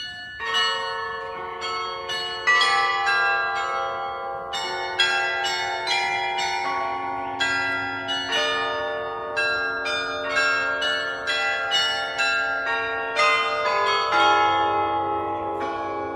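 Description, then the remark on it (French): A 17th-century hammer and keyboard church carillon at the church of Our Lady of Loreto in Prague plays a bright, ringing melody of many overlapping bell strikes, notes ringing out and decaying into one another in a steady, lively rhythm, clear with no voices. “Et celui que vous entendez derrière moi est l'un des plus célèbres, puisqu'il s'agit du carillon de l'église Notre-Dame de Lorette à Prague”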